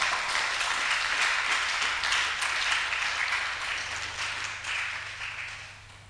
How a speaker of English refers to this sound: Somebody clap to God's glory.